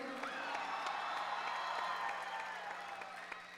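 A crowd applauds and cheers steadily, a dense wash of clapping with scattered shouts and whoops rising above it, holding at a fairly even loudness throughout.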